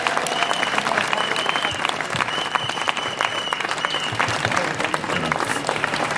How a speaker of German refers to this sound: Und vielen Dank an die Aktivisten, die dort diese Zerstörungsmaschine blockieren. Erstmal vielleicht kurzen Applaus. Auch an alle hier.